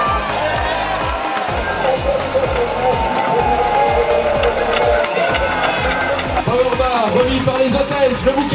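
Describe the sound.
Loud, continuous applause for the first leader of the general classification, mixed with cheering and shouting voices, and a steady low rhythmic thumping underneath for the whole stretch.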